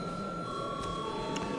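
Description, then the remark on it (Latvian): A Saeima parliament voting bell, rung before a vote on a bill, sounds as a steady, high electronic ringing tone held throughout, with a faint background hum and a couple of soft clicks, and no one speaking. “Lūdzu zvanu.”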